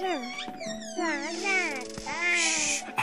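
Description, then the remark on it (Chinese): A three-month-old baby boy, held by his mother, cries loudly in continuous wavering wails that rise and fall in pitch, with a faint steady tone humming underneath. “宝宝乖，别做声啊。”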